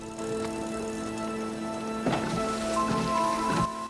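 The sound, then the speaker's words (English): Steady rain hisses across city roads, a dense, even patter that holds throughout, with a low tonal hum underneath and a few brief louder splashes near the end. “Streetlights shimmer on the rainy roads.”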